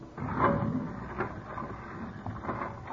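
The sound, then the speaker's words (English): A guard closes a heavy solid steel vault door, 2 inches thick and weighing 4 tons; it grinds and rumbles shut, a continuous mechanical scraping broken by a few dull clunks, moderately loud, with no voices. “That door is 2 inches thick and weighs 4 tons.”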